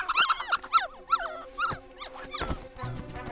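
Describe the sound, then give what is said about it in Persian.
Several dogs in a video game whimper and yip in quick, high-pitched bursts, with wavering whines rising and falling, over a steady low background hum. “وای نه، این همه طول سگ اینجاست، طول سگا.”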